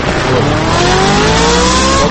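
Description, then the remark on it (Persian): A car engine revs loudly, its pitch climbing steadily, with a harsh hiss of tires squealing underneath for the full two seconds. No one speaks. “آقا با شما نبودم، شما چرا ترمز کردی الکی؟”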